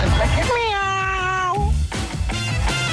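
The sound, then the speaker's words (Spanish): A cat lets out one long, loud, drawn-out meow that dips slightly in pitch at the end, followed by murmured voices and background noise. “Son lindos, pero puta que son hediondos. Los gatos.”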